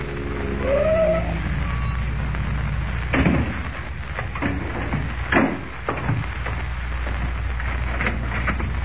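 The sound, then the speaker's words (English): A car engine rumbles with a brief rising whine early on as the car pulls up before a real estate office, then idles down amid a few sharp clunks and a steady hiss, no voices. “The following morning, before Lois and Jimmy awaken, Kent, in a car borrowed from Graham, pulls up before the real estate office of Ed Jenks.”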